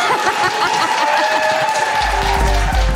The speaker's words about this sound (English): Thank you for coming. Could you all clap now?